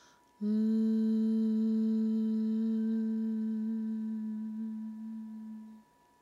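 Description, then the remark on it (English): A single sustained hum on one steady low pitch, made while lowering the arms to the sides during an exercise routine, held alone for about five seconds before fading out, clear with a smooth, unwavering tone. “And we'll lower the arms and hum at the same time.”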